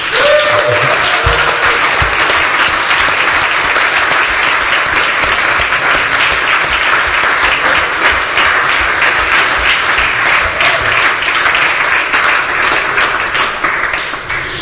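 Sustained audience applause for a couple from people in a hall, loud and dense with many hands clapping steadily for about fifteen seconds, tapering slightly at the very end.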